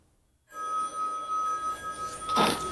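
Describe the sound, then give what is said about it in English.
A man's phone rings somewhere with a steady, bright electronic tone that starts abruptly after a brief silence and carries on, swelling louder near the end. No one speaks. “What's that? His phone somewhere.”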